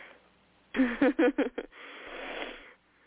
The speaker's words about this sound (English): Oh, excuse me, I'm sorry, I'm yawning, and that is not an indication to the quality of the poem. The poem was wonderful. I'm just getting sleepy.